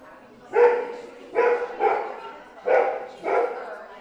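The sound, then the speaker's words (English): A therapy dog barks five times in a loose, uneven rhythm, each bark a short, full-throated burst with quiet pauses between, at a weekly therapy dog meetup at the Parkland Rec Center. “This is a rare moment here at Therapy Dog Thursday, a weekly meetup at the Parkland Rec Center this summer.”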